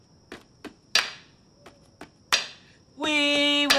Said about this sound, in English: Scientific principle, percussive shock. Raj joins in Leonard's hammering with a foot tap and clap.